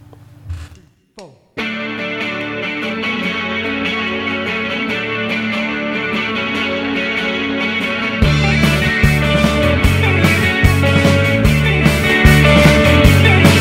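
A live rock song bursts in after a brief opening snippet: dense distorted guitars at first, then a louder, fuller stretch with steady pounding drums for the second half.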